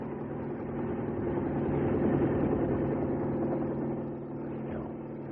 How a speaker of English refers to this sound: Wait. Do you hear that? It's a helicopter.